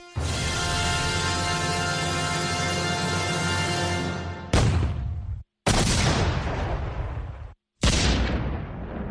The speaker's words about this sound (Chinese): 1898年2月15日夜间，在哈瓦那港口停泊的缅因号发生大爆炸，军舰沉没了，舰上的250多名美国海员丧生，没人知道爆炸的原因。